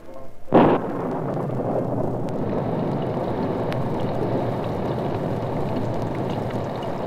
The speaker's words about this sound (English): Outside the roadhouse, a steady downpour covered the black beauty as Brett Reed and Cato waited in the rain-drenched darkness.